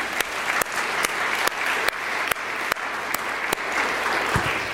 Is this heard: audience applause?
yes